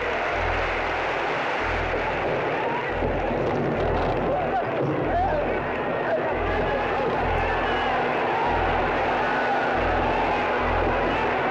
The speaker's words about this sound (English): Yeah, that is 22,000 people cheering the beating of a man.